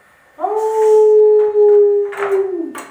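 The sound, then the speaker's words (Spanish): A wolf lets out one long, loud, sustained howl that holds a steady pitch for about two seconds before sliding down and trailing off, with a few faint rustling noises near the end. “¡Ahí va el lobo! ¡Que viene el lobo!”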